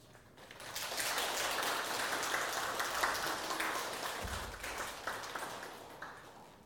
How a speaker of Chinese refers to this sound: 我们现在以热烈的掌声欢迎我们今天的主讲人